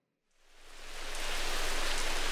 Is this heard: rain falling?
yes